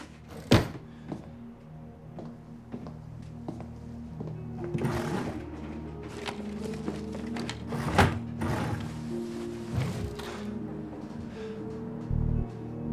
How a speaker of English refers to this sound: In the room, he rifles through some drawers, then turns to the dresser. He shuffles through clothes and looks around with a serious expression.